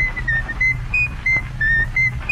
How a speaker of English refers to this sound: All right, Elmo, let's hear your whistling.